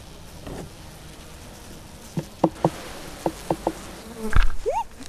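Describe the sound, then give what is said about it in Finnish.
Honeybees buzz steadily around an open hive, filling the background, with a few sharp ticks and a brief rising whine near the end. “Pitääks mehiläisiä pelät silleen kuin amppareet? Ei, nämä on 100 kertaa kesumpia.”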